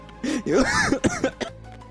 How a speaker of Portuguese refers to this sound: Tossindo, na verdade.